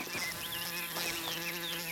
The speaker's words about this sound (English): The sound of a wasp. It's a large specimen, nearly an inch long, with yellow and black rings on its abdomen and long yellow legs.